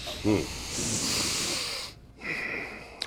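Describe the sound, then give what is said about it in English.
Two long, breathy sniffs drawn in deeply through the nose by people trying to place a smell, one after the other with a short pause between, preceded by a brief vocal grunt. “Everyone take a sniff. Yeah, deep sniffs.”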